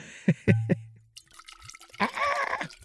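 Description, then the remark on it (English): A few sharp clinks and knocks come first, then a short stream of an unlabeled agave spirit splashes and gurgles into a glass for under a second. “I almost perfectly poured this mystery agave spirit in...”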